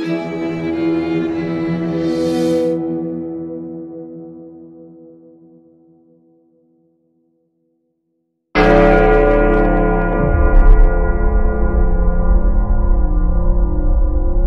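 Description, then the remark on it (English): A large bell, struck with a quarterstaff, rings out loud and resonant, its rich tone slowly fading into silence before a second powerful strike booms and keeps ringing, with no voices present. “A loud, proud, resonant ring explodes out of the bell like a pimple the size of a haystack, echoing the pus of the sweet sounds of lawlessness out over the entire city.”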